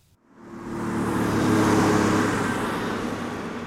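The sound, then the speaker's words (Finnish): Heavy road traffic roars past an asphalt roadwork site with lanes closed to traffic, swelling in after a brief silence and holding a loud, steady rush over a low engine drone, with no voices. “Asfalttityömaa keskellä liikennevirtaa tarkoittaa liikenteeltä suljettuja kaistoja ja riskejä, jotka moni urakoitsija ja työntekijä tunnistaa.”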